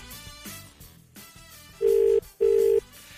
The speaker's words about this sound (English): It's still ringing. Karen, that's your phone.